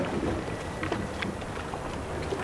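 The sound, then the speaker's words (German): A motorboat that has just set off from the harbour drones steadily in the distance, heading this way, a low continuous rumble mixed with wind and water noise, with faint clicks and splashes over it. No one speaks. “Da hinten beim Hafen ist gerade ein Motorboot losgefahren. Es kommt in unsere Richtung.”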